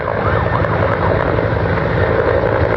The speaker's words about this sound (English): Flying through thick black smoke, an emergency helicopter dumps as much water as it can as firefighters desperately tackle an out-of-control bushfire in central Victoria.